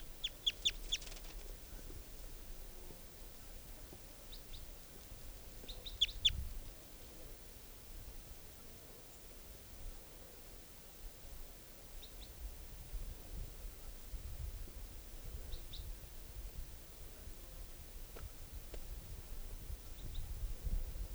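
juvenile bird calls

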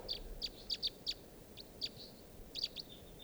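wild birds calling

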